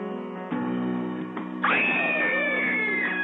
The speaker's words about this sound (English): we had to get a scream in. I mean, it's Halloween